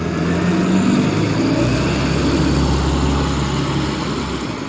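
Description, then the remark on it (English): A bus pulls up near the speaker, who is under a tree, its heavy engine rumbling and hissing steadily throughout, with a deep low drone that shifts slightly in pitch as it slows. No one speaks. “And that was not Niagara Falls, that was a bus pulling up to near where I am under the tree.”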